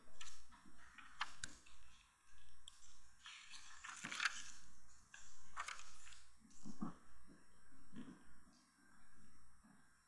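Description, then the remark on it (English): Crisp paper rustling and flicking as Bible pages are turned in bursts to Ephesians chapter 1, with soft scrapes and light ticking handling noises, no one speaking. “Still have pages turning.”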